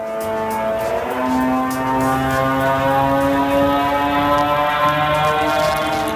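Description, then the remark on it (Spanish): A Shahed drone's small propeller engine drones loudly and continuously during an attack in Ukraine, a buzzing, moped-like tone with rich stacked harmonics and slight wavering pitch, with no voices. “Este es el ataque de un dron Shahed. Estos drones llevan un pequeño motor de hélice que genera un ruido muy peculiar.”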